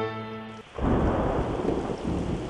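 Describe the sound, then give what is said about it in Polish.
In the children's radio play Do góry nogami, a sustained tonal chord cuts off into a sudden, loud roll of thunder from a darkened sky, deep rumbling over a steady hiss of heavy rain that continues to the end. “Nagle na niebie pociemniało. Gdzieś błysnęło, zahuczało. Wiatr przefrunął, szarpiąc drzewa.”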